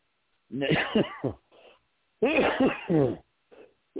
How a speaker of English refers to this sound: Excuse me for coughing. I've been working all day, giving out food and gathering stuff for our people. Breath is minimal. Getting old, too.